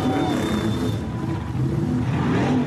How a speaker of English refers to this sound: That wasn't my car, by the way.